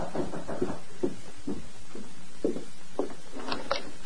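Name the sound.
knocking on a door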